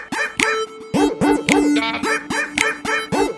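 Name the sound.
dogs barking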